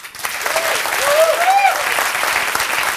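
Sustained applause from a talk show audience welcoming the first guest, a doctor, a dense steady patter of clapping at moderate loudness, with a brief rising whistle or cheer cutting through midway.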